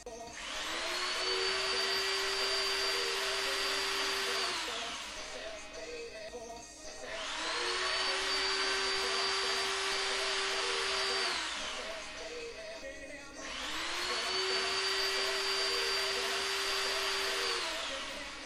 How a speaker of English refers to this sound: How far apart are the holes? 15 mils. Okay. Marked them all? Yep. Okay. Well, can you just drill those holes there now?